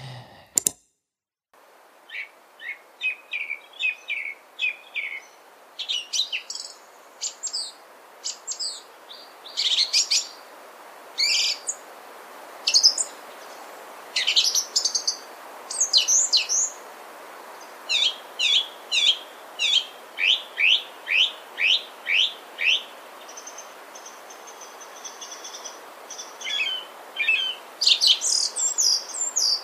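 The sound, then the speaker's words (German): A song thrush sings, clear and loud, delivering short bright phrases that are each repeated several times in quick succession, separated by brief pauses, with no other sounds around it. “Auch das unterscheidet meiner Meinung nach die Singdrossel durchaus von Amsel und Misteldrossel.”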